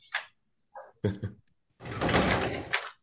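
A door opens with a short creak and a couple of knocking thunks, followed by a longer sliding rush as it swings or slides open, fairly close by with no talking.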